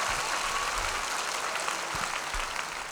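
An audience at a show claps steadily for the vocal group, a dense, even wash of many hands with no single claps standing out, holding at the same fairly loud level throughout with no voices heard.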